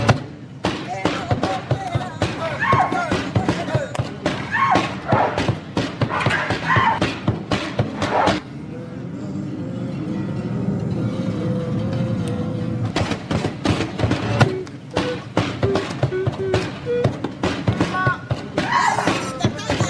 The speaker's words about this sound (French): Sacré coup de pied ou sacré coup de talon plutôt.